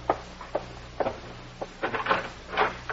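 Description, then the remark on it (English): A door being answered and opened: a few sharp knocks and clunks at a steady pace, then a longer rattling, creaking stretch as it swings, moderately loud, with no voices. “But you had better answer the door.”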